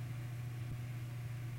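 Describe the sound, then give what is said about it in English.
A car engine hums steadily outside as a beige or yellow car drives up, a low, even drone at low volume, with no voices over it. “Someone just drove up, the beige car, the yellow car.”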